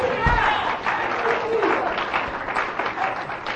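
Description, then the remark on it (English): An audience breaks into sustained hand clapping for the Lord, a dense wash of many overlapping claps at steady loudness, with voices calling out over it. “How many of you can give the Lord a hand clap for that?”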